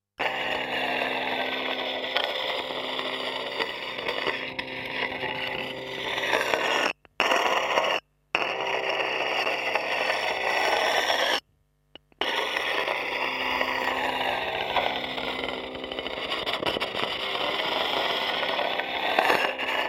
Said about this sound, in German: Sie hören Schleifen mit einem Kontaktmikrofon auf einem Laptop-Kühlgerät.